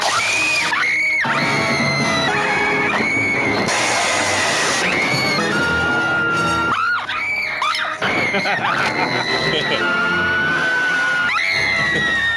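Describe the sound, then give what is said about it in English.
The character Vicky Vale screams over and over in the film Batman: long, piercing, high-pitched shrieks, loud, with brief breaths between them and a busy, noisy background underneath. “Yo, she screams so much.”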